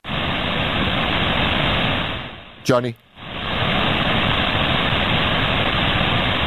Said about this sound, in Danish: Det er sjovt, vi kan stadigvæk høre trafikken, eller lyden af det.